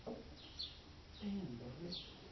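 Faint birds chirping in short, scattered bursts, a few high calls spread over a couple of seconds, with a low murmur underneath.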